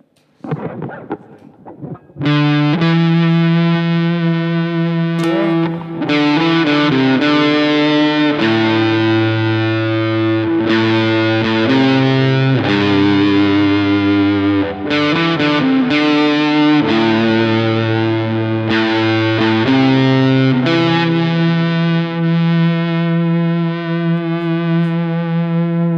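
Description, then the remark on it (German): Heavily fuzzed electric guitar, played through a fuzz effects pedal that is being tried out, plays sustained, saturated chords and notes, thick and buzzing with a muffled low end, changing every few seconds and ringing out with long sustain. No talking. “Ich kann das jetzt mal mit diesem anderen Pedal, was ich gerade hier noch ausprobiere, probieren nachzustellen. Der Fass klingt ein bisschen mumpfiger.”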